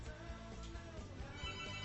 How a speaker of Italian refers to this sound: Suonano telefoni.